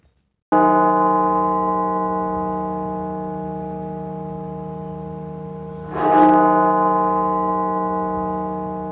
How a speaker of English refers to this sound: The Washington National Cathedral tolling its bell 900 times, marking the grim milestone of 900,000 lives lost in the United States from COVID-19.